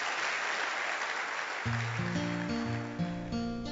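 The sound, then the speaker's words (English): A church audience claps unto the Lord in a steady, dense wash of applause, and about halfway through, sustained organ-like chords begin playing over the clapping. “Clap unto the Lord.”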